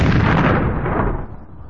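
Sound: explosion sound effect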